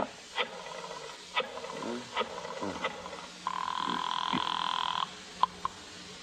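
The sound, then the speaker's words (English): A telephone at Cairo Theatrical rings once in a steady, buzzing burst of about a second and a half, following a few short, brief sounds, then stops abruptly. “Cairo Theatrical, Mooney Davis on the phone.”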